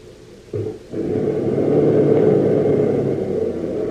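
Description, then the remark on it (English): A car engine turns over after a moment of quiet, catches with a brief stutter, then settles into a loud, steady rumbling drone until the end, as the car is started and driven back along a narrow lane to the main road. “Now, you will start the car again, and we shall go back the way we came, with no interference.”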